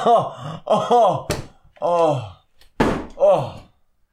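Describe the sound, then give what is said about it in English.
Two sharp, dull wooden thunks from a broken chair with a bent leg being handled, separated by about a second and a half, amid strained vocal grunts and groans. “Fuck the chair! You bent the leg, you need a new one, dude.”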